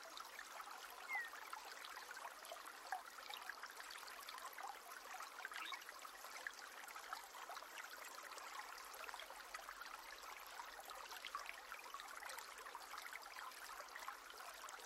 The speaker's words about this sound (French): Et là, plus loin, vous remarquez que cette petite rivière rejoint un autre cours d'eau qui emmène tout cela loin, très loin jusqu'à la mer.